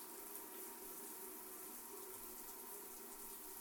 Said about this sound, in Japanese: ジャバジャバ、ジャバジャバ、泡をどんどん洗い流して。